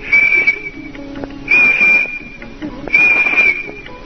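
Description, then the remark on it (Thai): Three shrill, steady whistles blown by a man with his hand in his mouth in the middle of a forest, each about half a second long and evenly spaced, sounding alone with no talking. “เอ๊ะมันเข้าเอามือใส่ปากเป่าทำไมอ่ะเสียงวิดวีด3ครั้งดูเหมือนเสียงจะดังไปไกลมากทีเดียว”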